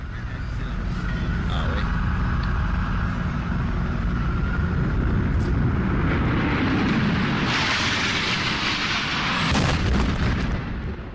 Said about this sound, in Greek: κόσμος παρακολούθησε αεροσκάφος της εταιρείας American Airlines να προσκρούει στον βόρειο πύργο του Παγκόσμιου Κέντρου Εμπορίου, προκαλώντας καταστροφική έκρηξη.